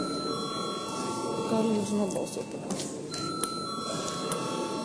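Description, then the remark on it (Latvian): A steady electric bell rings continuously through the whole stretch, bright and sustained, calling a parliamentary vote, over a hubbub of room noise and faint murmuring voices. “Paldies, lūdzu zvanu.”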